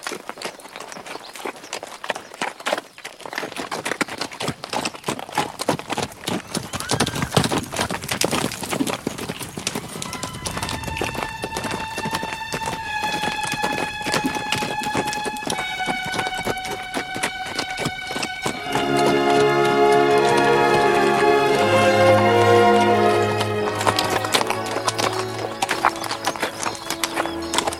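horses galloping and neighing

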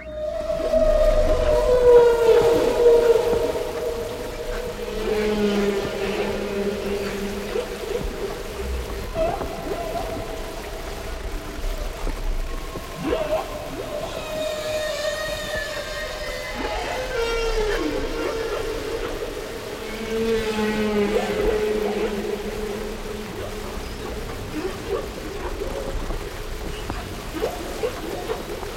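humpback whale song

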